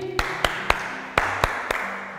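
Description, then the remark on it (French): A class of pupils claps together in a steady rhythmic beat for a girl who drew a vertical straight line on the board, about seven sharp, fairly loud claps in a couple of seconds, with a faint hum behind and no talking. “Très bien, applaudissez pour notre ami.”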